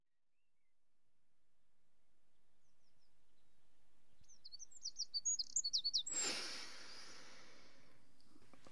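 birds chirping outside

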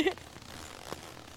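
zipper being zipped closed

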